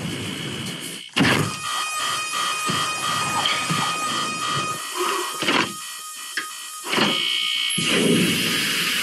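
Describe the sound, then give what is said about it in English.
Several electronic alarms ring at once, their steady high-pitched tones overlapping continuously, with intermittent bursts of mechanical clattering and thumps mixed in. No one speaks. “That's a lot of alarm sounds.”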